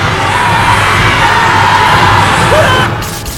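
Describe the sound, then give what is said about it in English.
A dense crowd of three groups yells and shouts all at once in a loud, sustained roar of many overlapping voices as they stampede toward a force field in a warehouse, cutting off abruptly after about three seconds. “The three groups stampede towards the force field, and an explosion of light rips through the warehouse, leaving everyone on the floor.”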